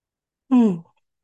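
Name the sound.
person yawning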